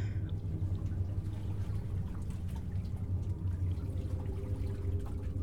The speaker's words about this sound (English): I must be in some kind of cave. Maybe if I just follow this tunnel, there's a strange glow at the end of it. Maybe it's the way out. Perhaps there's a stream or underground river I can follow.